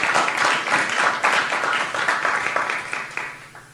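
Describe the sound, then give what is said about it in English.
A crowd claps for the Lord as worship, dense overlapping clapping at a fairly loud level before gradually tapering off toward the end. “So let's clap for the Lord because he hears that as worship and we want to worship him.”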